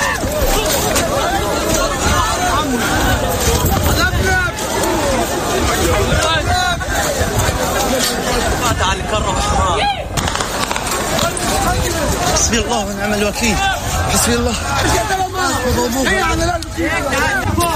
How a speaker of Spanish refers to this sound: Este es el caos que se desató por esos disparos de los soldados israelíes sobre una multitud de gazatíes hambrientos que se agolpaban en torno a varios camiones con sacos de harina en el norte de la franja.